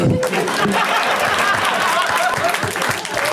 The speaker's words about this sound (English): Whoa, you got an applause break for that. Well, I started it. I don't know if it counts when you start your own applause break.